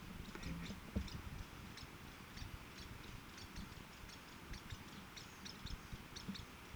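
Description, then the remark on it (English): Two Lewis's woodpeckers chatter in short, high, scratchy bursts that trade back and forth, fairly soft against a steady low rumble of background noise; one is in a 35-foot black oak, the other in the top of a 60-foot cottonwood. No one speaks. “two Lewis woodpeckers chattering back and forth to one another.”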